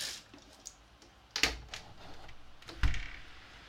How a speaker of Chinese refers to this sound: 是啊，这不是底噪，外面下雨了，暴雨。窗户打开你们听听。